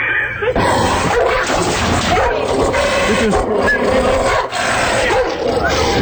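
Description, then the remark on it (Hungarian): A dog barks and whimpers continuously and fairly loudly, its yelps and whines mixed with a busy, dense background and some voice-like sounds throughout. “A feljelentést elfogadom, és bemutatom neked azt a kutyát, aki megkóstolta a fenséges fenekemet.”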